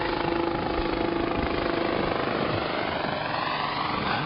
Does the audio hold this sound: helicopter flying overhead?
yes